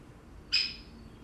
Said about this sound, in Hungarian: Itt most tulajdonképpen nem hangszert használ ez a madár, húszik fölfelé a fa törzsén, és ilyen éles csik-csik-csik hangot ad. Ennél szebb hangot nem is tud hallatni, aztán elkezd kopácsolni.